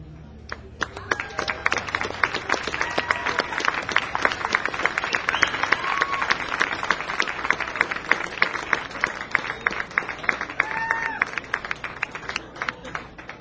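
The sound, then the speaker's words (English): Sustained audience applause, a dense wash of many hands clapping steadily at a fairly loud level, with a few faint whistles or cheers rising above it. “And for your lingering applause, thank you.”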